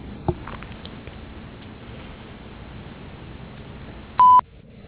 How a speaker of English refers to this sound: Sorry I missed your call, but leave a short, detailed message after the beep and I'll get back to you as soon as I can.